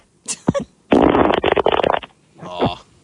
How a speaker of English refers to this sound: Those are my farts, by the way. I thought I had a third one in me, but I guess I don't.